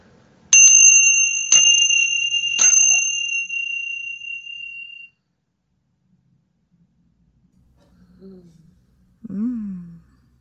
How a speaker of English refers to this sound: So that must be your bell you spoke of in your self-care club episode that you ring